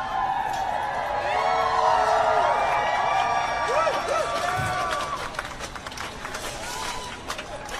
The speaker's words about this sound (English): Let's listen to this video of people cheering on the Kennedy Center removal.